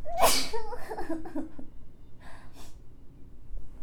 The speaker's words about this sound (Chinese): 等一下，我打喷嚏。